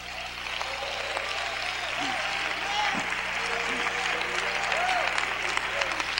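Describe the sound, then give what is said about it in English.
An audience claps steadily throughout at a sanctified church service, a dense wash of hand claps, with voices calling out faintly beneath the applause. “Come on, clap your hands. Oh, clap your hands.”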